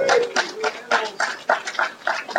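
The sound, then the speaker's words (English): A dog makes a series of short vocal sounds in quick succession, somewhere between whines and soft barks, repeating about six or seven times with an uneven rhythm. “So there's Sid, the world's only hacker dog”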